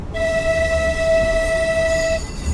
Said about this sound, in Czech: Co říkáte tomu, že jedeme ve vlaku, který řídí stroj? No je to zvláštní pocit dát jakoby svůj život do počítače. Mně to přijde normální.